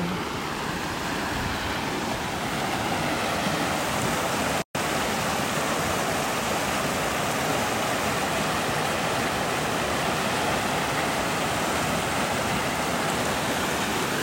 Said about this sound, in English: We're getting close to the river. I'm about 10 feet. Listen to the sound of Pecos River.